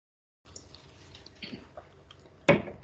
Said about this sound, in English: Better get a sip of water before I go into that.